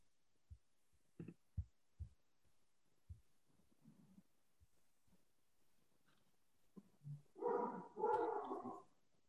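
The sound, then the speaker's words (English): A pet dog lets out two loud, harsh barks near the end, preceded by a few soft low thumps and faint grumbling, during a meeting vote. “I think my dog is approving.”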